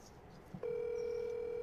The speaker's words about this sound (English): No, that's the phone.